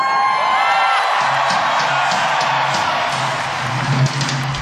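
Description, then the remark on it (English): A huge concert crowd at Fenway roars and cheers continuously, with scattered whoops and high shouts rising out of a dense, loud wash of voices that holds steady throughout. “Why, this must be the biggest crowd I've ever seen in New York.”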